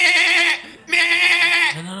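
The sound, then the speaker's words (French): Two loud bleats of a baby goat, imitated by a human voice, each wavering and nasal, about half a second long with a brief gap between them. “Fait qu'on ramène le petit bébé chèvre, on part en char.”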